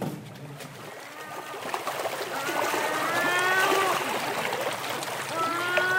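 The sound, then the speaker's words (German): Water of a lagoon laps and splashes steadily against an edge, a broad watery wash that builds slightly over the seconds, with faint tonal chirps or calls drifting above it. “Doch bevor sie sich auf die Terrasse setzt, geht sie ganz hinunter an die Lagune, die in Sichtweite liegt. Sie blickt am Geländer hinab aufs Wasser.”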